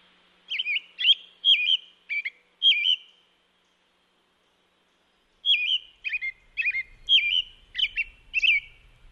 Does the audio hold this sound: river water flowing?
no